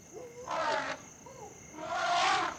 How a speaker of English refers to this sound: Oh, monkeys. They've seen the lion and are warning each other.